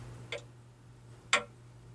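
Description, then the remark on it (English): Two crisp clock ticks exactly one second apart, sharp, over a faint steady electrical hum, with no voices; the ticking of a clock app on an iPhone 6S running version 9.3.5, starting when the app is launched. “As you can hear, the tick starts when the app is launched.”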